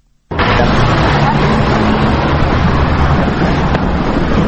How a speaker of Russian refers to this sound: Центральный автовокзал в Тбилиси расположился на восточной окраине города, в районе Ортачала. Солнце стоит уже высоко. Свет заливает всю улицу имени Дмитрия Гулия, по которой мчится транспорт, главным образом автобусы и маршрутки.